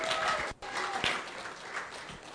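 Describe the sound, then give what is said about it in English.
An audience at a CCB president's dinner applauds the candidates with steady, dense clapping that holds at an even level for a couple of seconds, with a brief dip just before midway. “Okay, the time of 6:40 having arrived, let us give another great round of applause for all these candidates.”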